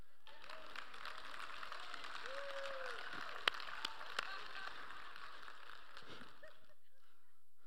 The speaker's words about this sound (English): Oh man, if you're gonna clap, clap.